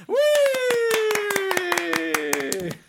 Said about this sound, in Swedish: Alltså gud, jag skulle vilja ha en stor applåd.